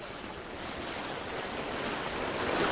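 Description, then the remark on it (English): A U.S. Coast Guard cutter cuts through the water of New York Harbor on a cloudy spring morning with a steady rush and hiss of spray, the wash swelling slightly louder toward the end, with no voices. “The Coast Guard cutter Flying Fish slices through the water in New York Harbor on a cloudy spring morning.”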